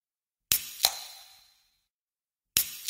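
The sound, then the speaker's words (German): A drink can pops open with a sharp metallic crack and a second snap, then a short fizzing hiss that fades within a second; another sharp click follows after a pause. “Das war eine Getränkedose.”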